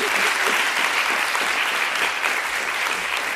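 Steady, dense applause from an audience, many hands clapping at once in a continuous wash of sound, fairly loud, with no voices rising above it.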